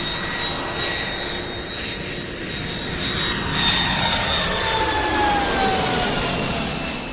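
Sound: airplane engine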